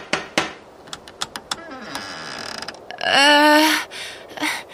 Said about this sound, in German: Naja, ich klingle mal. Ach nee, es gibt ja diesen riesigen Türklopfer. Moment.